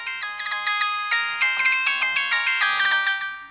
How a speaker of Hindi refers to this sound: ना मन बा, रुका, अभी ये तहार भैया के फोन लगावत हैं, सब बात बतावत हैं।